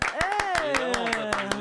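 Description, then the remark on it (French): Applause arrives as about nine sharp, evenly spaced claps in a brisk steady rhythm, fairly loud, while a voice keeps talking over them. “on m'applaudit ou pas ?”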